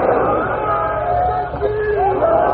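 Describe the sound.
A large rally crowd chants slogans in unison, a loud, dense wall of many raised voices sustained throughout, with shouted tones rising and falling over a constant roar.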